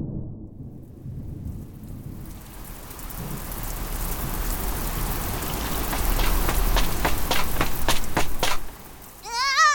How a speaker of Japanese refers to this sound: ねえ、今上から水滴落ちてこなかった？確か今日、雨が降るって天気予報で言ってたような。なあ、今ポツポツって水滴降って。あ、雨降ってきた。